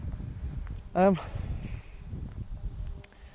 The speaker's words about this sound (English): Oh, the wind's picking up because it's meant to be raining.